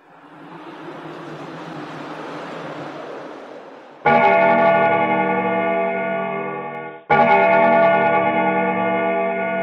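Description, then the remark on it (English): A clock strikes two o'clock with two deep, ringing strokes, each loud and sustained with a long humming decay, in the audiobook Snowball, A Christmas Dilemma. The strokes are a few seconds apart and follow a swelling wash of hissing noise. “2 o'clock at the stroke.”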